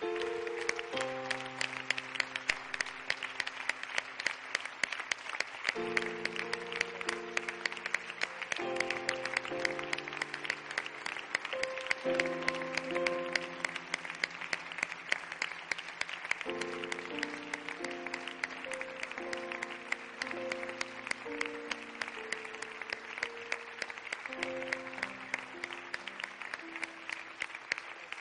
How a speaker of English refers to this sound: I know we recognized them a moment ago with a moment of silence, but I'd like us to recognize them once again today. And would you do that with me with just a heartfelt applause of appreciation for their sacrifice? Would you do that?